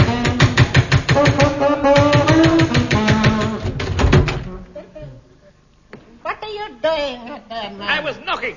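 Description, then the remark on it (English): A run of quick, rhythmic knocks on a door mixed in with saxophone practice music for about four seconds, then a brief lull before people start talking. “Someone at the door. Please, will you knock in time with my playing?”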